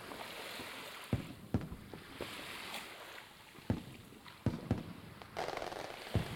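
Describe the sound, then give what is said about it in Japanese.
Fireworks pop and crackle at irregular intervals over a beach by the sea, sharp bursts over a steady wash of seaside ambience, with no one speaking. “海辺で花火を見るなんて。”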